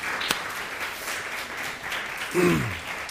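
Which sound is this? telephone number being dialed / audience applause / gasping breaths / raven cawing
audience applause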